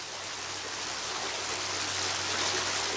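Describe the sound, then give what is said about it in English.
Water pours and splashes steadily from a fountain in Rome, a continuous rushing hiss that holds even for the whole stretch, with no voices. “Everywhere you turn, there's a water spigot or just a beautiful fountain.”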